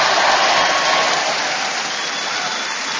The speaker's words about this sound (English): And in front of us, we have an exciting, hyped up, truly Geordie audience who are going to cheer us on our way.